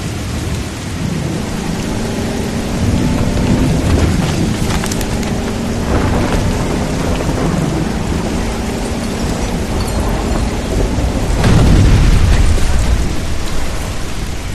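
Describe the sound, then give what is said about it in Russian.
Heavy rain hisses steadily at night while a low, droning hum runs beneath it, and a deep roll of thunder swells and rumbles loudly toward the end. “Броневик несется по размокшей от дождя проселочной дороге”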